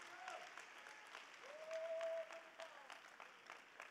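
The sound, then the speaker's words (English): An audience at a church service claps steadily in praise to the Lord, with dense, overlapping applause and a sustained tone briefly ringing out beneath it midway. “Come on, a real big hand clap of praise.”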